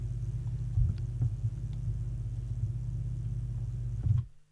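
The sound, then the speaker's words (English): A steady, heavy low rumble of vehicles fills the busy Abuabo Old Railway Lorry Station in Kumasi, with a few faint knocks and clatters on top, no voices, before the noise cuts off abruptly. “residents and traders at the busy Abuabo Old Railway Lorry Station in Kumasi are living in a deteriorating sanitation environment”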